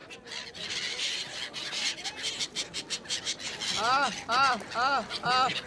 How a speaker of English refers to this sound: The Sangam is also one of three places in India where the soul can get to heaven very quickly, and where gulls get fed by the pilgrims.